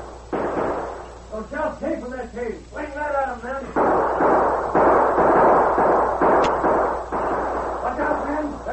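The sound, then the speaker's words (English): Loud volleys of gunfire crackle in long, dense bursts, nearly continuous through the middle, with shouting voices breaking in between the early shots and again near the end, in a Lone Ranger story as a sheriff's posse nears a cave opening on a river's west bank. “Then suddenly he heard shots.”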